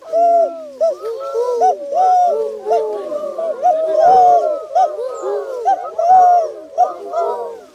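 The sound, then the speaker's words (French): A person's voice mimics a turtle dove's cooing, producing a steady series of soft purring, rolling coos with brief pauses between phrases. “Et la tourterelle, c'est tout, tout, tout.”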